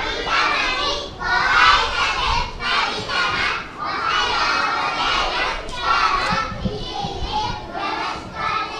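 Fourth-grade children working in their elementary school garden across the river from Nagasaki's Ground Zero chatter and shout all at once, their high, overlapping voices forming a steady, lively babble with occasional brighter calls rising above the din.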